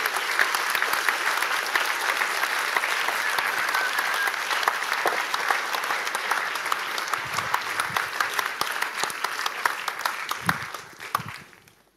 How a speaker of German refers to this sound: Genau, es kostet immer so ein bisschen Mut, vorne zu stehen und zu reden. Deswegen war der Applaus durchaus angemessen